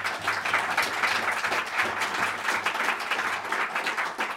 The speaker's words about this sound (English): You may be clapping, but are you doing that?